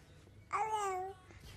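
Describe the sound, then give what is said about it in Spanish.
A parrot imitates a baby's babble: one brief, bright coo lasting about half a second, with a clear harmonic tone that dips slightly in pitch. It stands alone against quiet background hiss. “Es un loro.”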